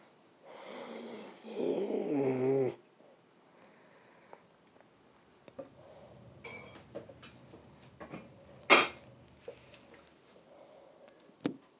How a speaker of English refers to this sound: Oh, you're making tapping noises now